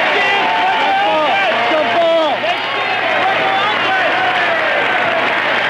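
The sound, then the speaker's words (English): A huge crowd at Yankee Stadium in New York roars steadily in welcome of Pope John Paul II, a dense wash of cheering voices, shouts and applause, loud and unbroken for the whole stretch. “The crowd's welcome was anything but solemn.”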